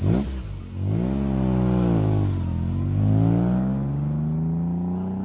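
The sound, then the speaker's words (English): A race car engine revs loudly at the starting line at Bonneville, where dozens of cars wait their turn to blast off, its pitch climbing and falling in rising and easing sweeps with no one speaking over it. “We drive to the starting line here at Bonneville, where dozens of cars wait their turn to blast off.”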